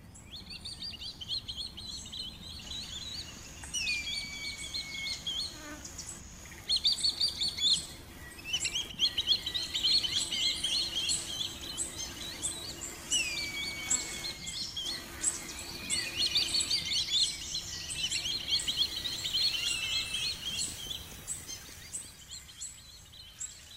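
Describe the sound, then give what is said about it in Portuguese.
Hawks calling repeatedly, including a gavião-azul, a gavião-tesoura and a gavião-urubu, with high, piercing whistled cries and some sharp downward-sliding notes in irregular bursts over a low, steady background rumble, with no one speaking. “E é isso mesmo, são sons de gaviões. Tem aí o gavião azul, o tesoura e o gavião urubu.”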